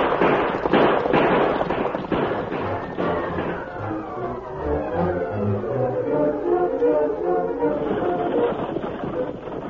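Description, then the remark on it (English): A rapid volley of several loud gunshots cracks out in quick succession as outlaws ride out shooting to hold up a stagecoach, then the shots thin out beneath a busy, rumbling backdrop of tonal sound that keeps going to the end. “Inside the stagecoach, Ebenezer was startled when the gunfire was heard.”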